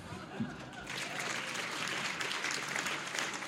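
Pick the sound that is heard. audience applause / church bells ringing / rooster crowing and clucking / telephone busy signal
audience applause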